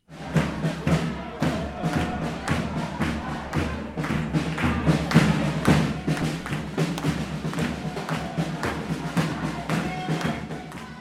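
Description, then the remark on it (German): A spontaneous protest rally at the train station in Bern, where protesters blocked tracks in solidarity with the intercepted Global Sumud Flotilla and Palestine: a loud, steady crowd din with indistinct voices and a constant stream of sharp thumps and bangs, like drumming or pounding, throughout. “Auch in Bern formierte sich eine Spontankundgebung, die unter anderem am Bahnhof Gleise blockierte. Das klang in etwa so.”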